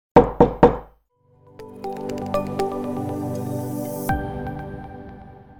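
Three quick, firm knocks on a door in a steady rhythm, followed after a short pause by sustained instrumental music that swells in and holds steady.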